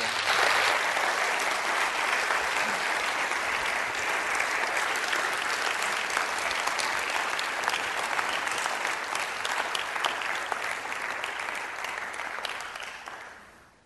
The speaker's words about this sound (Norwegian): Tusen takk skal dere ha. Vi gir en stor applaus også.